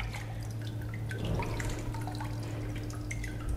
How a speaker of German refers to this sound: Dann richtet man den Rahmen gerade aus, damit man ein schönes gleichmäßiges Blatt Papier hat. Und dann entsteht hier ein Vakuum. Das entzieht wahnsinnig viel Wasser.